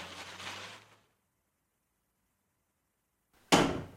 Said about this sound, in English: jumps to his feet when the door bangs open, and there's a tall figure silhouetted by the bright sunlight.